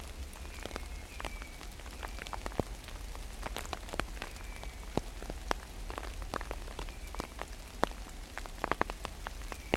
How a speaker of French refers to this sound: Le frétillement de la pluie subite, onde et brève. Pluie drue, rapide, serrée, qui grésille, crépite. Pluie qui va s'alourdissant, changement de rythme